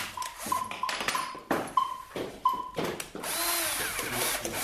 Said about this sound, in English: A violin improvised from two leeks, a flute made by drilling into a cucumber, a sort of trumpet carved from a pumpkin.